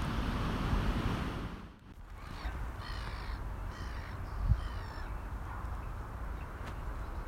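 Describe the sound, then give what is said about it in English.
Black-headed gulls give a run of harsh, squawking calls over a cricket ground in Saltaire, on a canal towpath's left-hand side, repeating over several seconds above a steady rush of wind and outdoor noise. “Some rather noisy black-headed gulls on my left-hand side now, which are inhabiting another cricket ground.”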